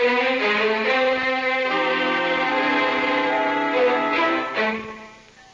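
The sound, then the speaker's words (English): A church bell rings loudly, its overlapping strikes blending into a dense, sustained clang that sounds slightly off-key before fading away at the end. “Bells don't change their tone the way you and I change our clothes.”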